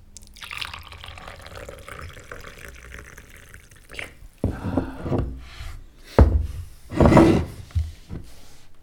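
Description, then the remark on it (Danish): Hot water is poured for a liquorice and fennel tea on a rainy, grey day, a steady hissing stream for about four seconds, followed by several louder clinks and knocks as the cup and kettle are handled. “I dagens regnvejrsagtige grå stemning gør vi en god te.”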